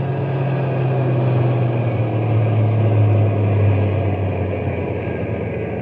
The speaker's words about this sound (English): We'll drive on a little bit and then stop the truck. But keep the motor idling so we can take off in a hurry if anybody comes along.